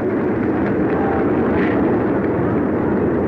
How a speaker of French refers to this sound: Il précède trois escadrilles de bombardiers anglais qui suivent à peine à 300 mètres de distance. Trois escadrilles de neuf avions de couleur jaune, 6 moteurs Blenheim.